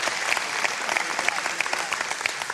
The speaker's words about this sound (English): I appreciate your claps, I do, but again, I'm not trying to turn this into a rally,